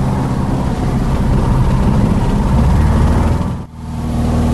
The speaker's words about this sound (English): They're going to run round the corner and accelerate to the west there. And if we're not airborne in 350 metres, then we're going to stop and come back and take some fuel out.